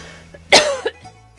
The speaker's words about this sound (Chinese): 糟糕，太冷了。这是我觉得我为什么会咳嗽，我是原来那天礼拜六还是骑脚踏车骑了一个小时，礼拜六那天很冷，没有下雨